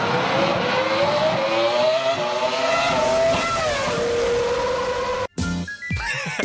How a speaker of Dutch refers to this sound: En de meest succesvolle Ferrari Grand Prix auto ooit gebouwd, zegt Arm Sotheby's. En ja, hij heeft ook weer die heerlijke 3 liter V10 motor.